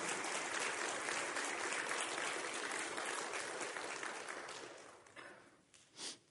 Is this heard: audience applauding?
yes